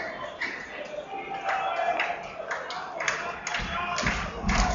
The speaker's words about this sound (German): Ja, jetzt kommt nochmal das Publikum, feuert an.